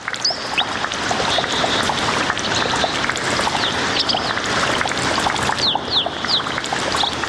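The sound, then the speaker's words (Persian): Water flows and splashes steadily at a mountain spring, a continuous rushing texture, with a few quick, high bird chirps breaking through now and then. No one speaks. “در این برنامه با شما یک جا به طرف گدر یا چشم ساران می رویم.”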